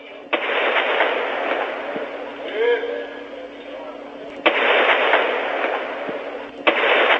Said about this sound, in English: More smoke plumes are rising above the city, and gunfire can be heard in several districts.